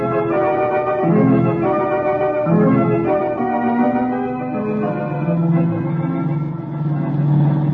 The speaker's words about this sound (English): certainly giving their car all it can take.